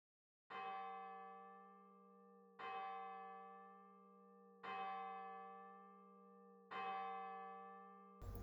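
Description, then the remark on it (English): A resonant bell strikes four times at a slow, even pace of roughly two seconds, each ring sustaining and overlapping into the next with a rich, humming tone. No voices are present. “Be aware of your need and return to this whenever you hear the bell, becoming more aware again of your desire.”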